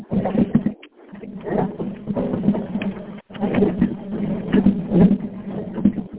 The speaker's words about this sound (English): Yay, that squeaking you're hearing is a hand cart as I move the pump.